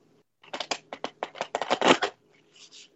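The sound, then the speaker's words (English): A deck of cards being shuffled during a card reading, a rapid run of crisp riffling flutters and taps lasting about two seconds, ending with a soft settling rustle. “My shuffling is, the more I do it, the better I get, but it's really taken a while for me to get good at this.”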